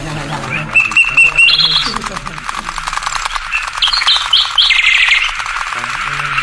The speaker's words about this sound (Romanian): Acum, pentru că treburile țării au fost puse la cale cu înalta noastră înțelepciune, să ne mai desfete puțin privighetoarea cea măiastră.